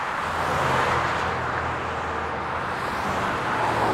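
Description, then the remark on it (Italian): A car drives steadily along a road, its engine hum and tire rumble forming a constant, fairly loud wash of noise with no voices. Gianfranco Stevanin is driving with a woman in the car. “si decide e la carica in macchina.”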